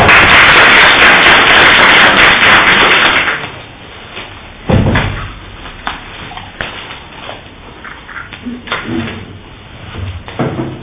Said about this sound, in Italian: per cui concediamo, introducendo con applauso, la parola.